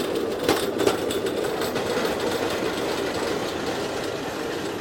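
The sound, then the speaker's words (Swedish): Steel wheels of a pedal-powered rail bike roll along the track in a steady, continuous metallic rumble and rattle, with a few brief clicks early on and no voices. “Och så är det stålhjul som kanske hörs.”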